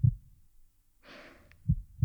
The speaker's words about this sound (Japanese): だから心臓の音を聞いてると、なんか安心するのかな。お兄さんはどう？ママの音を聞いてると、落ち着く？